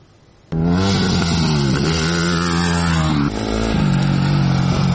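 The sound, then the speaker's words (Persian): An Iranian woman motorcyclist's motorcycle engine starts up loud after a short quiet moment, then revs and idles with a rough, throbbing growl, the pitch rising and falling before settling into a steady rumble. “دختر موتورسوار ایرانی که با موفقیت آرزوهایش را دنبال کرده.”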